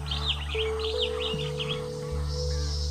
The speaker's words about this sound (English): Imagine you are in the jungle. Listen to all those strange noises. There are birds